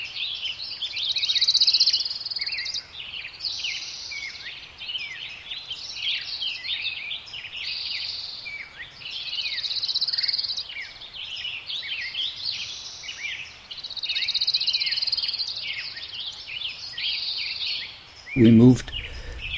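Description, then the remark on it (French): A dense chorus of forest birdsong in spring at Sugarloaf State Park, about 80 km north of San Francisco, fills the air, many overlapping chirps and warbling trills layered at a steady, lively level, with a brief louder burst from one voice toward the end. “Aujourd'hui, premier épisode, il y a plein d'oiseaux.”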